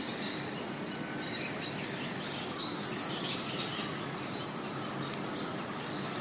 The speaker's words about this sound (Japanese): 私が暮らしているところは、周りに大きな木々や小さな山があったり、自然に囲まれているので、鳥のさえずりや風の音、自然をたっぷり満喫できます。